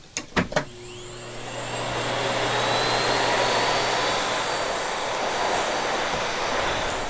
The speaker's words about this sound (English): One company that I love is a company called Miele out of Germany. And listening to a Miele vacuum fire up is just a beautiful sound.